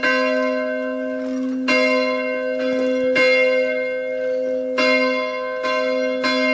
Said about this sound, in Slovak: No Janka, môžete si potiahnuť. Vôbec to nie je jednoduché. A zvon už počuť.